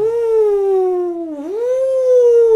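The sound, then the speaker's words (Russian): A single sustained voice howls 'oooo' to imitate a blizzard wind, loud, its pitch sagging slowly and then rising again over a couple of seconds. “Гудит, гудит метель, воет метель.”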